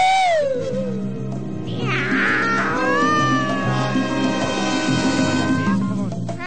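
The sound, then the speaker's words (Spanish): A person imitates a cat meowing with long, wavering, drawn-out yowls that rise and fall, loud, over a steady low hum in the background. “Que conste que traba mucho mejor el pavo que el gato aquí, ¿eh?”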